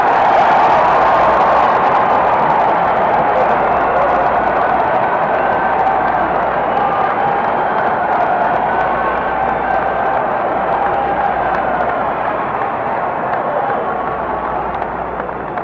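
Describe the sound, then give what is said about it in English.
A large crowd at an evening campaign rally claps and cheers for the speaker in a loud, continuous roar that holds steady for about fifteen seconds, with voices shouting and whooping over dense applause. “I've been in New York and Chicago and all the county seats nearly and state capitals, and I've had just such a reception as you're giving me here tonight”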